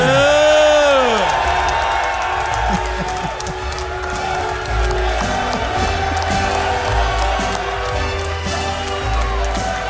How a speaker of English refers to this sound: He was soaking in the applause.